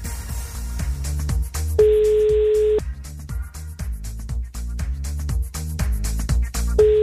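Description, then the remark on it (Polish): A steady telephone ringback tone sounds twice while a call is placed to a person, a one-second burst and then another about five seconds later, playing over rhythmic background music with no talking. “Jest sygnał, to już jest dobry znak.”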